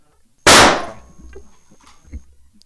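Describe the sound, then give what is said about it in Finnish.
A single loud gunshot, fired at a person, cracks out suddenly, then trails off in a ringing, echoing decay with faint rustling afterward; no one speaks. “Ei kukaan tulisi vaatimaan sitä sen jälkeen minulta, joten minä ammun hänet.”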